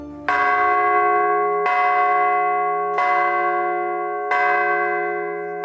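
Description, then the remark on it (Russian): The largest church bell, named Blagovestnik and hung on a temporary belfry, tolls four times at a slow, steady pace as Bishop Georgy I tries it out on the day of the bells' consecration after the Divine Liturgy. Each deep, loud strike rings with a long, shimmering hum that carries into the next stroke. “В день освящения колоколов по окончании божественной литургии владыка Георгий I опробовал самый большой колокол – Благовестник, установленный на временной звоннице.”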